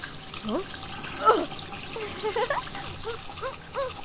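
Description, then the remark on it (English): Water runs steadily indoors at home, like a tap left on, with a constant hiss and bubbly gurgles and splashes rising and falling over a few seconds at moderate volume. “Is this the reason our water bill is through the roof?!”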